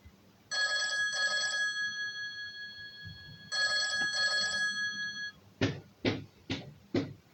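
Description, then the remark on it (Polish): An old telephone standing on a round table in the corner of a room rings loudly in two double-burst cycles, each a pair of quick trills, followed by four sharp, evenly spaced knocks or thuds. No one speaks. “Ten miły nastrój został brutalnie przerwany głośnym dzwonkiem telefonu, który stał w rogu pokoju na pięknym, okrągłym stoliku, przykrytym haftowaną serwetką w maki.”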